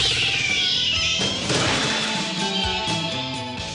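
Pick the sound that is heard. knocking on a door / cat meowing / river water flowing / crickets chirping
cat meowing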